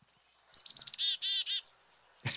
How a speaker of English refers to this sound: Oh, I'm confused. I've never heard that. That's my favorite bird in the known universe, the black-capped chickadee.